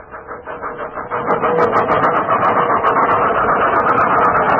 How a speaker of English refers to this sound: we've got to place these engines in proper synchronization, or they'll take the building down